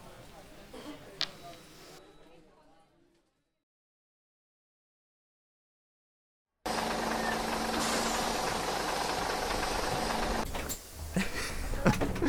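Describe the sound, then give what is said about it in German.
An open-top double-decker bus engine starts up loud after a few seconds of near silence, a steady diesel rumble with a low droning hum that holds to the end, dipping briefly before surging again. “Und fahren mit einer dieser Doppeldecker-Telefonzellen auf Rädern?”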